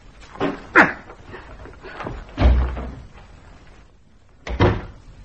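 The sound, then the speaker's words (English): A heavy cell door slams shut as a woman prisoner is locked in her cell, with a deep, booming metallic thud, preceded and followed by sharper clanks and rattles of the door and its fittings, with no voices. “Close the doors.”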